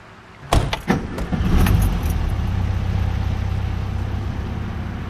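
Someone gets into a car: a few sharp clicks and a jangle of keys, a door thud, then an engine rumbles up and keeps running steadily as the car pulls away. No one speaks.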